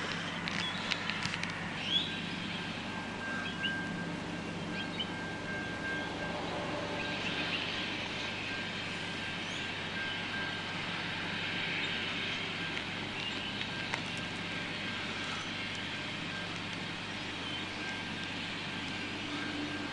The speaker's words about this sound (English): I can just see the train arriving in the distance now. I'm just about to cross a level crossing.